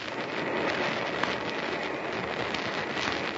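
A steady, even hiss of fine water spray shot from a nozzle into a cylinder, mixing with gas, runs without a break for a few seconds, broad and airy with no talking over it.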